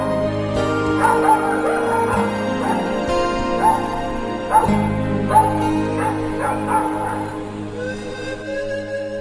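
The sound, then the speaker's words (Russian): A puppy barks and yelps in rapid, high-pitched bursts, fairly loud, with short whimpering cries between the yips and a steady background hum throughout. “прицеливаясь, чтобы ударить щенка, заливавшегося лаем.”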